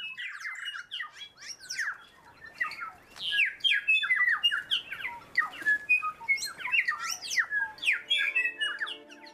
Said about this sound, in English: Birdsong can be so beautiful, but what does it mean? Is this a melodic tune or an elaborate poem that's to enthrall and attract another bird? Or is it an angry shout, like a warning to stay out of my territory?